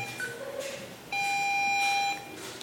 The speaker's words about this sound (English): Why am I beeping? Stop beeping. Our audio guides just suddenly started beeping in a very panicked way. I didn't feel good about that